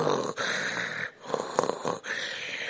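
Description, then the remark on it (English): A voice imitates heavy, raspy respirator breathing like Darth Vader: about three long, hissing breaths in and out with brief pauses between them, fairly loud, with no talking. “They got blood dripping down and they're breathing like Darth Vader.”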